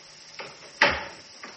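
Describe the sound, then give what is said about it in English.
A door shuts with one solid, resonant thud, preceded and followed by softer, lighter knocks. No voices are heard. “Shut the door,”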